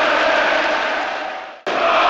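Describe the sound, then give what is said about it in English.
A football stadium crowd at Ellen Road roars and cheers at night as Leeds await the final whistle, in a dense, steady wall of noise that fades briefly, cuts out for an instant, then surges back just as loud. “Ellen Road is alive with noise tonight, and rightfully so.”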